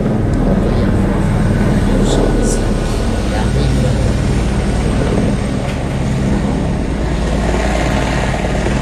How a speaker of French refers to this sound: C'est quoi ça? L'hélicoptère. Il va sur la piste.